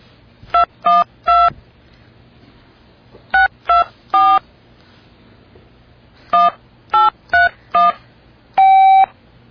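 Mobile phone dialing tones as the phone struggles to get a signal: ten short, clear beeps in three quick clusters separated by pauses, ending with one longer held tone, over a faint low background hum.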